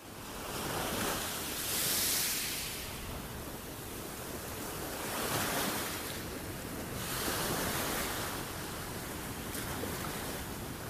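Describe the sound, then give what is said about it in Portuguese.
Ocean waves break on the shore in slow, rolling surges, each swell rising into a broad hiss of foam and easing back, with a steady wash of surf in between and no voices. “Agora vamos fazer silêncio e pensar num mar bem bonito.”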